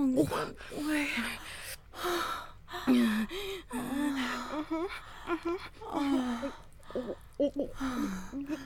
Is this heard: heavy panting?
yes